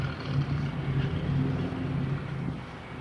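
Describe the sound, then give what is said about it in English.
Two men run leaf blowers in a steady, continuous engine drone with a low buzzing hum and broad airy roar, holding fairly loud and even throughout with no voices. “Two guys with leaf blowers.”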